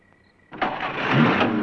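After a brief near-silence with a faint steady tone, a car engine abruptly starts and roars up loudly, holding a rough, sustained rumble as it begins to pull away.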